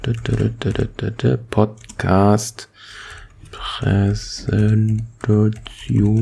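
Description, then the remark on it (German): Rapid keyboard clicks of someone typing on a computer run beneath a man's ongoing speech, the light tapping mostly masked by his voice. “Tja, ich glaube, den Stuhl oder Tastaturgedüttel wird man jetzt wohl oder übel hören.”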